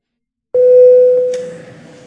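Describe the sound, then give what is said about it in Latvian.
A parliament voting call bell rings once to call a vote on a bill in its first reading: a steady, pitched electronic tone that starts abruptly, holds for over a second, then gradually fades. No one speaks. “Lūdzu zvanu.”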